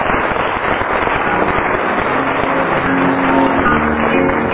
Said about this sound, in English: For 11 years now, I've been trying to get a lady scorer, like all the other chairmen have sitting next door. And we have. Give her an actual round of applause.